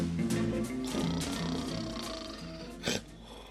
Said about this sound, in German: Auf einem schweren Holzbett schnarchte ein Mann.